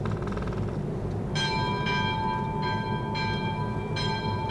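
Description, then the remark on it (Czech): A small church bell rings the evening Angelus alone at a steady, unhurried pace, each bright metallic strike leaving a shimmering ring that overlaps the next, heard over a low ambient rumble. “A tu náhle zazněl hlas zvonku, klekání.”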